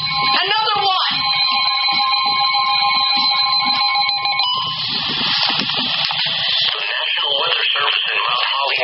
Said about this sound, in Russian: Вот сейчас работает телефон, например. Передает сообщение о надвигающемся торнадо. Это телефон, да?